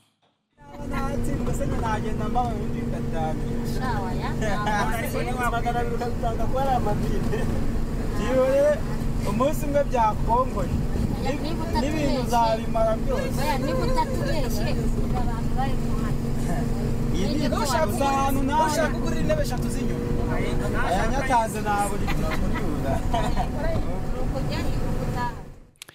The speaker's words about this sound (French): Alors, vous êtes dans un bus là ? Voilà. C'est une aventure, les bus, quand même.